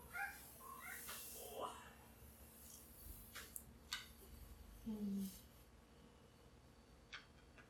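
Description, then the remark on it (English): A pet cat named Dove meows several times in short, rising calls, followed by a lower, drawn-out cry, with faint background clatter between them. “You hear my cat?”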